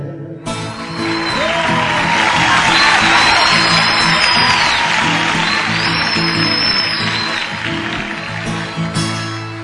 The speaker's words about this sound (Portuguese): Foi uma salva de palmas, gritaram viva pro fazendeiro que tem 1 milhão de pé de café por esse rico chão brasileiro.